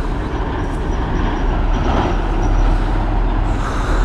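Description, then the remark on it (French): A tram rumbles by along a tram line opposite a scrap metal yard on the way toward Décines and central Lyon, a steady loud low-frequency roar with rail and wheel noise holding for several seconds, no voices over it. “Ça c'est le tram.”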